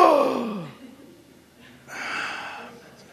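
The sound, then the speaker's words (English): A sleeping person with sleep apnea, airway closed off, makes a strangled, voiced choking noise sliding downward in pitch, then a second of near silence as breathing stops before a loud, raspy gasp for breath, with no talking. “What happens actually is that the air supply is cut off and then the individual stops breathing.”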